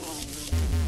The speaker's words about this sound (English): Take care of the deadly wasps. Yeah, I sure hear them. Now, the cool thing about the wasps in this game is they don't have good aim.